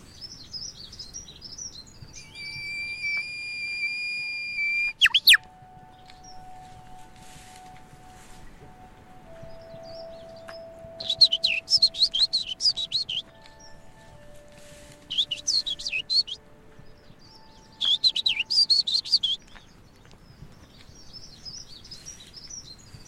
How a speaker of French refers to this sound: Wow, enfin, c'est un oiseau, je ne sais pas.